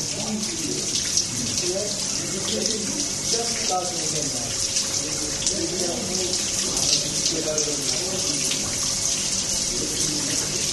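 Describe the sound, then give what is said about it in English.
Steady running water flows and splashes continuously, fairly loud, with a broad hiss throughout; faint murmuring voices sit underneath the stream. “This water is going there.”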